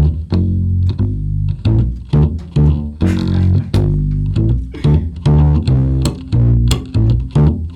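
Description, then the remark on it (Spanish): A slapped upright bass (tololoche, played chicoteado style) plays alone: low plucked notes punctuated by sharp percussive clicks in a steady, driving rhythm, loud and bouncy throughout. “A ver, ahorita nos vamos a oír el tololoche. Chicoteado.”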